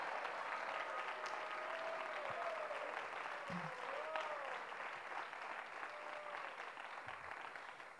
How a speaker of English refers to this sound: Please, an applause for him.